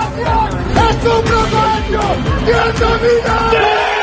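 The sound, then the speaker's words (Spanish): A crowd of students from the law team of the Complutense University of Madrid shouts sexist chants together during a match at the university's rugby grounds, loud, the yelled phrases rising and falling in a steady rhythm with no break in the noise. “La Universidad Complutense de Madrid investiga ya estos gritos que se produjeron el pasado día 10 en sus campos de rugby.”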